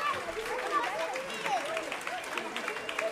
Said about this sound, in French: Eh bien, on peut les applaudir bien fort.